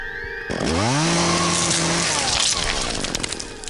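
A chainsaw roars to life, its engine climbing quickly to a loud, steady high-pitched whine before sputtering and snarling unevenly toward the end.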